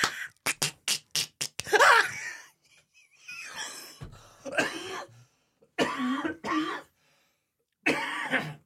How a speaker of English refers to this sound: Oh, I'm coughing myself to death. Don't die. That would be terrible.